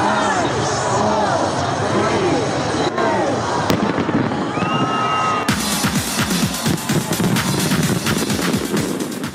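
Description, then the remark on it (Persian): New Year fireworks welcoming 2022 in Sydney, Australia: steady bursts and crackles pop over a dense crowd murmur, with cheering voices rising throughout; midway the bangs grow sharper and more rapid, a loud continuous barrage. “شهر سیدنی استرالیا با آنکه بلندترین آمار مثبت ویروس کرونا را در یک روز ثبت کرد، با آتش‌بازی به استقبال 2022 رفت.”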